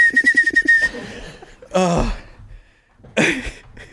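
A person whistles a quick run of repeated notes at one steady pitch, a pulsing dance-tune riff, then breaks off into two loud, breathy bursts of laughter.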